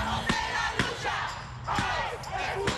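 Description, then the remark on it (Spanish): A crowd of protesters, marching in the heat to the US Immigration and Customs Enforcement (ICE) headquarters, shout and chant together in support of migrants, a dense wash of raised voices punctuated by sharp thumps and claps, steady and loud throughout. “Los manifestantes marcharon hasta la sede del Servicio de Inmigración y Control de Aduanas de Estados Unidos, ICE, cantando y gritando a favor de los migrantes.”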